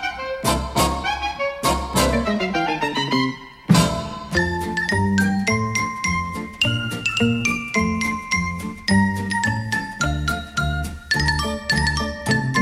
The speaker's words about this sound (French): Eh ben oui, c'était le générique de la série télé animée préférée des boomers, l'ours Colargol qui chante enfin en sol, en gilet et en faux-col.